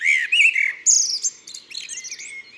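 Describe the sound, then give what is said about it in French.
A Eurasian blackbird perched on a house roof in a quiet town neighbourhood with trees and gardens sings at dawn on 1 May, answering other blackbirds: a clear, fluting phrase, its melodic whistles giving way to a quieter, scratchy twittering flourish, with no other sounds around it. “Le merle est perché sur le toit d'une maison, bien en vue, et il répond à d'autres merles du quartier.”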